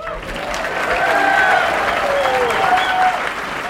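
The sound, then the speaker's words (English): Enthusiastic crowd applause, a steady wash of clapping that runs the whole clip at a fairly loud level, with cheering voices and a few whoops rising above it, as Marjorie Taylor Greene takes the stage after being introduced by Congressman John Joyce. “Congressman John Joyce, who represents Franklin County in D.C., introduced Marjorie Taylor Greene, who took the stage to enthusiastic applause.”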